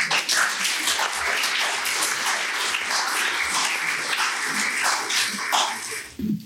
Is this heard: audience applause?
yes